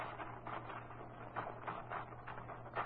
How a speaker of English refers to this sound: You want to use my typewriter. Sure, I'll put some paper in it for you.